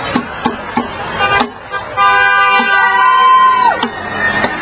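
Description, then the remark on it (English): A car horn blares in one long sustained honk with a pitch that slides down at the end, following a few shorter toots, as cars honk at street protesters amid crowd noise and voices on a busy street. “Cars are honking at the people happily.”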